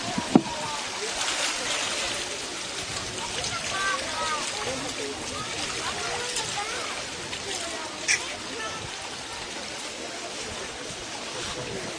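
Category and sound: nature, flowing water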